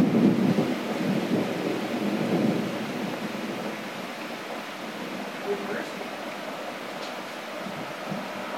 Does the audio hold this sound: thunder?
yes